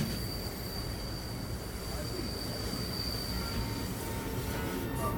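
A passenger train, the Southwest Chief, rolls steadily along the rails across the southwestern United States, a continuous low rumble and rattle with a thin, sustained metallic wheel squeal riding above it.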